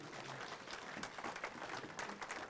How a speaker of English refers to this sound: Congratulations. She passed her bar exam today. Not her bar exam. She's now a full-fledged nurse. Congratulations. Yeah, give her a round of applause.